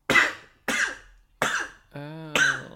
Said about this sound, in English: Oh, I'm gonna sneeze. Careful.